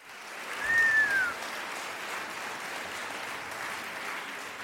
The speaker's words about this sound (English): Giving y'all a round of applause.